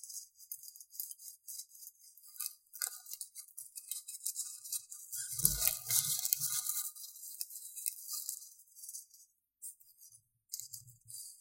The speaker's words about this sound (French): Est-ce que vous voulez entendre les feuilles de la forêt? La forêt d'été. Enfin, en automne.